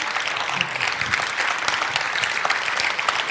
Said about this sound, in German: Ja, dann erstmal einen riesigen herzlichen Applaus